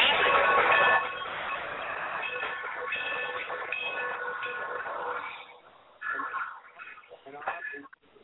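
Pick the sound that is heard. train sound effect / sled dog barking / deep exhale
train sound effect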